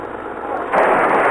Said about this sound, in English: What the? Hey, they crashed into my car. They cracked me up. Hey, you. What's the big idea? Don't you know how to keep a car on the road?